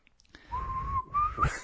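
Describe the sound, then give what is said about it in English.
A breathy attempt at whistling: mostly rushing blown air with a thin, wavering tone that only half sounds for about a second before breaking off. “I smoked too much to whistle.”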